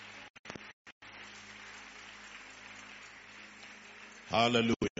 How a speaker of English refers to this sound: But those of you who are giving the Lord a clap offering, I will expect to hear your clap. Praise God.